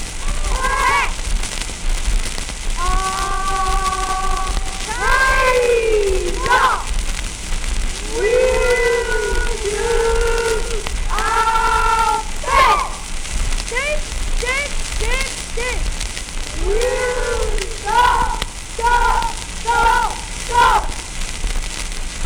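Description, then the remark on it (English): A wolf cub, a small boy in uniform, imitates a wolf howl in a series of drawn-out, rising and falling calls, repeated many times over a steady hissing background. “Did you hear that howl? It was given by a wolf cub.”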